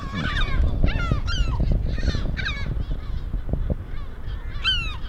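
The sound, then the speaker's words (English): Agitated seagulls cry out again and again at a breeding place in an industrial area, where people stepped into a nest with three eggs; several loud, harsh calls overlap, with a steady rumble of wind or handling noise underneath. “We somehow stepped into a kind of breeding place of the seagulls, I guess.”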